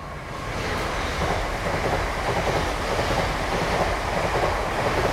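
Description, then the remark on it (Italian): A steady, broad rumble of a train arriving on rails at first light and slowing down, with a constant loud roar and faint metallic texture, continuing without pause and with no voices. “Percepirono l'arrivo del treno dal rumore metallico che arrivava dai binari.”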